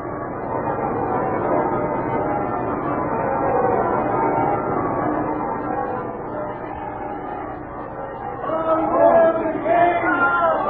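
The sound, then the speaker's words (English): Church bells ring out for a wedding day with the King of France over the steady murmur of a large crowd in crowd-lined streets, their tones growing clearer and fuller toward the end as the chatter continues beneath. “Listen, bells are ringing.”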